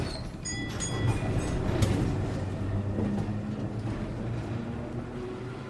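A tram to Broadway rumbles steadily along its rails, with a low continuous roar, metallic squeals and a brief high whine near the start, without any talking.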